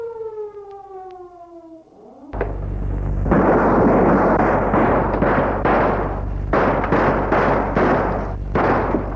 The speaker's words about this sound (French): Des coups de feu ont retenti.